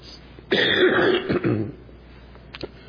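A single harsh, raspy cough erupts, lasting about a second before trailing off into quiet, with a faint small throat sound near the end.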